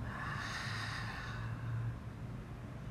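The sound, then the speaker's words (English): A long, deep breath drawn slowly, a soft breathy rush lasting about two seconds before easing off. No one speaks. “Breathing.”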